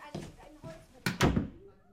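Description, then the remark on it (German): A door swings shut with a solid thud, a quick double knock of wood and latch, then the sound fades into quiet. Soft voices murmur just before it. “Sei doch so lieb und mach die Tür zu”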